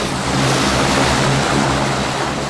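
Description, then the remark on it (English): A turboprop plane with two propellers, bound for Boston, as the pilot starts the engine. It roars loudly and steadily, its propellers producing a deep, throbbing drone with a broad rushing hiss over it, filling the whole stretch. “The pilot climbs aboard, starts the engine, and sends a deafening noise through the air.”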